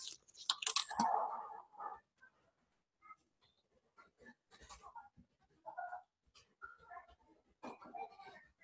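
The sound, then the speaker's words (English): Irregular bursts of crisp clicking from keys being struck on an off-centre computer keyboard, causing mistyping, with short pauses between clusters of keystrokes and a louder, busier flurry at the start. “Washamsi, so the keyboard is not centered, that's what I'm mistyping here.”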